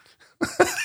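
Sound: sneeze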